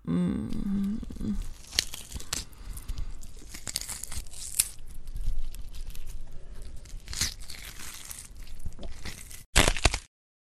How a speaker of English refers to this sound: Oh, how your bones crunch. Oh, it's music to my ears. Your flesh and blood in my mouth.